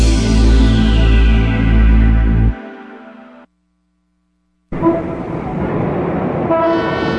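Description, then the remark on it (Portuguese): A loud, sustained car horn blares for a couple of seconds and cuts off into a brief silence, then busy traffic noise returns with more car horns honking over the rumble, at a street corner with a hospital. “Nossa, tá impossível esse trânsito, que falta de respeito. É um absurdo buzinar desse jeito.”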